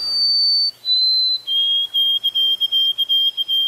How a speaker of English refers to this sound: Listen again. So here is all the rage among the sparrows now. This is what they've changed their tune to.